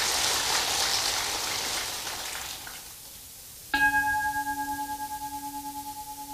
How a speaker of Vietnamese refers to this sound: Hãy chúc mừng bằng một tràng vỗ tay thật lớn để hoan hô.